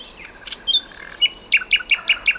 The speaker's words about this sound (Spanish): Esto es un ruiseñor común, en plena expansión nocturna. Los ruiseñores cantan de noche. Nada común, su canto, y maravilloso.